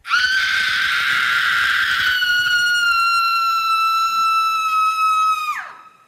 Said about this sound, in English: The knight uplifted his mace again and struck the head of the dragon. The beast then let out a horrid shriek.